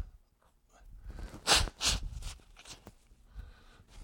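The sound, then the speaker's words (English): Someone blows their nose: two short, forceful bursts of breathy noise, followed by a few softer sniffs and rustles, with no talking. “Let me blow my nose real quick.”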